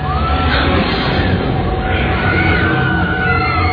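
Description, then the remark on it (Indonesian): Several women scream and yell at once outside a toilet, a loud, continuous, chaotic din of high overlapping cries that holds steady for about four seconds without a break. “Aku mendengar suara wanita-wanita berteriak.”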